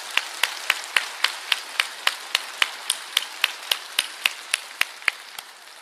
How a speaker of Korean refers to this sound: 우리 하나님께 영광의 박수 올려드릴까요?